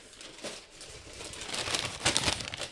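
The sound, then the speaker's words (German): A paper bag of fries rustles and crinkles, a continuous scratchy crackle that grows busier and louder toward the end as fries are fished out of it. “Ich muss hier mal ein paar Pommes rausfischen aus meiner Tüte.”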